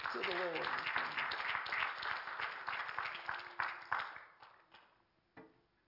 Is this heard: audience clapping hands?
yes